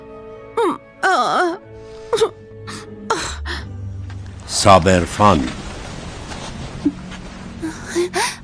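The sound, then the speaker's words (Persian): A child whimpers and wails in short, uneven bursts with sharp breaths between them, over a dull background rumble, and another voice briefly speaks. “دوباره داری گریه میکنی؟ واقعا که بچه ای.”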